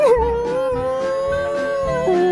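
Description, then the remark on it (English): A man's voice imitates a dog howling at the moon, holding one long, sustained wavering tone, ending with a short upward lift. “What is the sound of a dog when he howls at the moon?”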